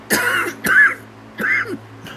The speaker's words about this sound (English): Excuse me, I got a lot to say. I'm getting so excited, it's making me cough, amen.